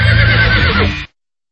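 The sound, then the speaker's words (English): A single loud horse neigh, a shaky whinny lasting about a second before cutting off abruptly into silence. “Here's a horse.”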